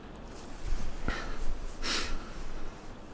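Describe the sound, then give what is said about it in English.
A baby's soft, breathy yawn, with a short airy intake followed by a longer drawn-out exhale, fairly quiet, with no talking. “Oh, that yawn was so cute, baby.”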